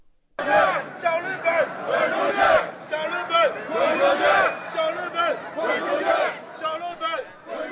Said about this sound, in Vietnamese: Hàng ngàn người Trung Quốc biểu tình bên ngoài Đại sứ quán Nhật Bản ở Bắc Kinh hôm qua. Đám đông ném đá và đốt quốc kỳ Nhật Bản và các cuộc biểu tình lan rộng tới nhiều thành phố khác.